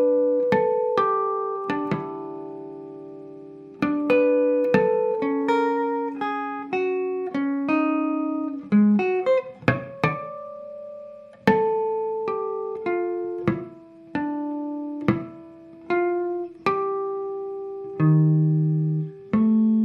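A solo guitar picks out the slow melody of a ballad in chiming, bell-like harmonics, each note ringing clear and decaying, mixed with low plucked bass notes and occasional strummed chords, no voices.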